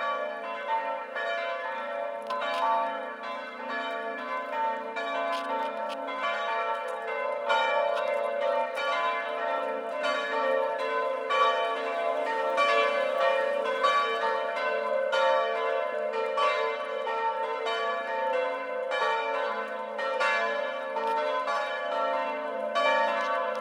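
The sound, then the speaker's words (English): A peal of church bells rings continuously from some distance, overlapping strikes forming a steady, shimmering wash of tones with no voices present. “I have to say, I don't mind bells from a distance, but as I have a ringside seat for bells where I live, and I don't find them quite as exciting as maybe some do.”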